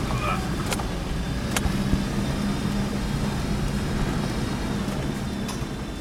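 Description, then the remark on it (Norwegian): A heavy truck engine rumbles steadily, a deep, continuous drone with occasional sharp knocks and rattles, as the truck struggles up a very steep, muddy road in the rainforest. “Ja, da hørte vi jo, her var det jo midt ute I regnskogen på denne berømte veien, og sleit litt rann.”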